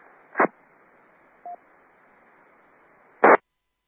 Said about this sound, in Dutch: Blijf rustig, ik even de squasknoppen losgedraaid. Kijken wie nog in de ruis zich probeert in te melden, wie of wie.